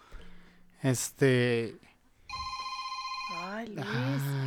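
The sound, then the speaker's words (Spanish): A mobile phone rings with a steady, repeating electronic tone, fairly loud, while people talk over it before and after the ringing starts. “¿Puedes poner tu celular en silencio?”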